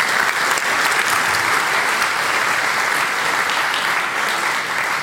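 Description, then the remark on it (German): Sustained audience applause at the GPN for Wandox's performance fills the whole stretch, a dense, steady wash of many hands clapping at an even loudness with no voices standing out. “Also erstmal Applaus für Wandox für diese tolle Performance.”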